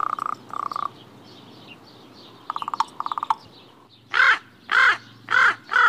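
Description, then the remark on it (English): Common raven calls recorded by the Cornell Lab of Ornithology, with no talking: two short rattling knocks, a quick burst of clicking knocks, then four loud, hoarse croaks in a steady series, all clear. “Here are some examples of raven speech as recorded by the Cornell Lab of Ornithology.”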